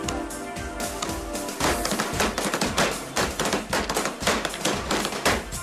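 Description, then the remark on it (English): Rapid drumming with a steady run of sharp, loud hits, tapping and thudding in a quick rhythm over a faint sustained tone, with no talking. “Oh, you may have noticed sometimes I get carried away when I'm drumming.”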